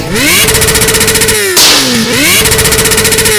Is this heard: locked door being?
no